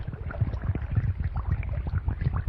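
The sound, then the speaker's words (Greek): Water sloshes and gurgles against a small wooden boat as a second boat is pulled close and a hole is unplugged, with soft knocks and a steady low rumble, no voices. “Τράβηξε το σκηνή να έρθει κοντά η δεύτερη βάρκα και ξεβούλωσε την τρύπα.”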